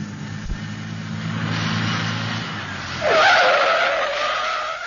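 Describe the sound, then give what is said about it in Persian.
A truck's engine rumbles as it approaches, then its tires break into a loud, sustained screech as it skids hard to a sudden stop. No one speaks. “تا کامیون رسید من میپرم جلوش، تا بایستد شما ها سوار شید.”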